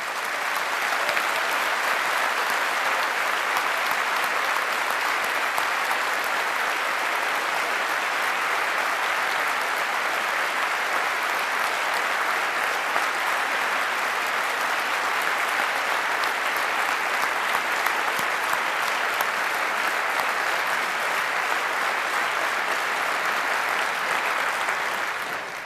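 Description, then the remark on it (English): A large audience at a talk applauds steadily for about 25 seconds to thank the people, hackerspaces and companies who helped make the project possible: a dense, even wash of clapping at constant loudness with no voices breaking through. “So give all of them a big round of applause, please, for making this possible.”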